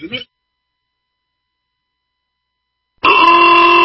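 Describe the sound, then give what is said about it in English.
A brief grunt-like vocal sound, then nearly three seconds of silence before loud, sustained car horns blare together, continuous to the end. “Why do I hear honking?”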